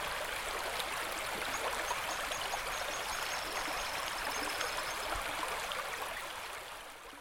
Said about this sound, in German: Wasser. Element, gemeinsames Naturgut, erneuerbar und doch endlich.